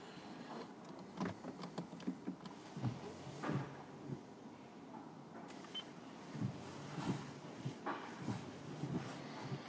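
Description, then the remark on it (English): At a car wash, water from a man's hose patters and drums unevenly against a car windshield, heard from inside the car, with scattered clunks and knocks over a steady, muffled hiss. “There's a man here spraying an ineffectual hose at the windshield of my car.”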